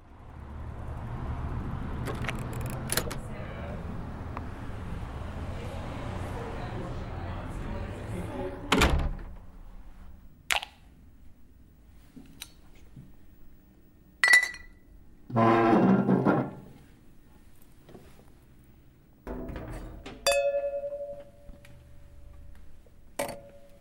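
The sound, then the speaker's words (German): Quiet ambience of the empty Stromboli cultural venue in Hall, recorded during setup: a low rumbling hiss at first, then scattered door thuds, knocks, light clinks and ticks, with a brief humming tone near the end. “Und genau so klingt das Stromboli in Hall.”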